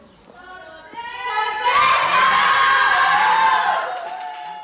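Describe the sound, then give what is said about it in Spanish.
A burst of crowd cheering and shouting at a surprise birthday party in a home full of people, balloons, piñatas and whistles, rising sharply after a quieter start, many high voices whooping and yelling together, loud and sustained before tapering off slightly at the end. “Está lleno de gente, globos, piñatas y silbatos.”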